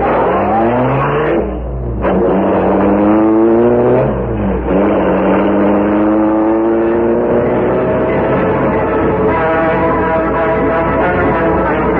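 A car engine revs up loudly and accelerates, its pitch climbing through a couple of gear changes before settling into a steady, strong drone as the vehicle drives off. No one speaks.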